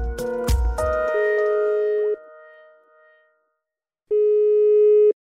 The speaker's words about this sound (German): Wenn das Telefon klingelt,